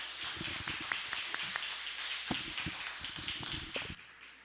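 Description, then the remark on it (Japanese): An audience gives another big round of applause to welcome a guest teacher, a dense patter of many hands with scattered sharper individual claps throughout, lasting several seconds, fairly loud with no voices over it. “今日はこうして皆さんの前で先生をお迎えできたことを心から感謝して、じゃあもう一度大きな拍手をして、終わったら何もしないで静かにしてください。”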